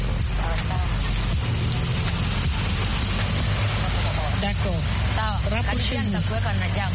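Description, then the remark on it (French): Steady low engine rumble and road noise of some street traffic heard from inside a bus, continuous throughout, with people talking over it. “Je vois qu'il y a un peu de circulation.”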